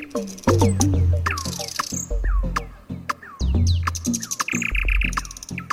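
A songbird sings a varied, rapid run of whistles, upward chirps, sharp clicks and buzzy trills, loud and continuous, over a low humming drone, like a nightingale's song. No voices are heard.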